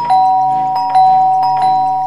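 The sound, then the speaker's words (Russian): A doorbell rings three times in quick succession, each press bringing a fresh bright chime over a steady, buzzy electric tone that holds throughout. Nobody speaks. “Звоню три раза.”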